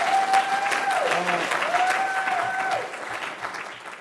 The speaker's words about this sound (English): I don't know why that person is screaming so loud, but I hope it's because they agree with this statement that I'm about to say.